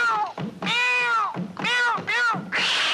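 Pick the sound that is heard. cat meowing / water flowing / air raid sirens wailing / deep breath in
cat meowing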